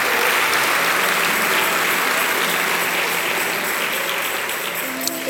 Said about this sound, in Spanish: Denle un aplauso al Señor Jesucristo, hermano.